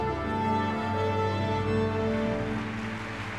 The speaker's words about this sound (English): The audience fills the concert hall. The musicians tune their instruments.